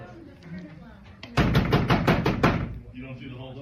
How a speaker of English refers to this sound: They're banging on the door. We were finally able to get into the room. We have a couple people in here with us and they just keep banging on the doors. Really annoying.